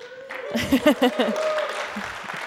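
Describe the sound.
An audience at ICF St. Gallen church claps steadily for a couple of seconds, a dense wash of applause with a few voices calling out over it early on, fading slightly toward the end.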